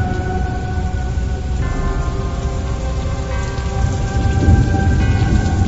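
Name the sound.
thunderstorm with heavy rain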